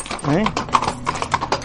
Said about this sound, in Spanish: por el hermoso sonido de los cascos de los caballos en el empedrado de las calles de la noble ciudad.